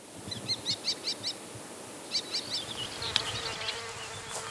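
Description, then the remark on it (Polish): A faint, steady hum of a swarm of bees buzzing outdoors as they pollinate flowers, with short bursts of high, pulsing chirps rising and falling over the low drone. “Bój pszczół, zapyla, kwiecie.”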